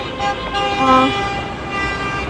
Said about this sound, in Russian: Едут машины, сигналят. Ну, видимо, знак поддержки тех, кто тут сегодня собрался.